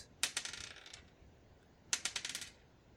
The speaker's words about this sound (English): Dice roll gets you killed or dice roll saves you? Dice roll gets you killed. All right, here we go. Six.